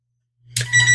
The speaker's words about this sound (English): I'm sorry. I thought I unhooked all the phones. Okay. Could you hear my phone ringing? Yes. Darn. I forgot about this phone. Okay, let me unhook it.